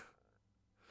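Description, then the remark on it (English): A quick sneeze bursts out in two breathy, hissing blasts at the start and end of the moment, with a quieter nasal rush between them. Fairly soft, with no talking. “Bless you.”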